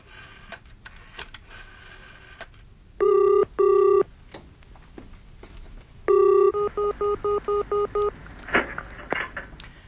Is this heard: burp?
no